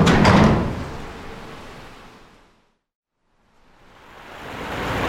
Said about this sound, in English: As the recently constructed loading doors closed, a third came into view.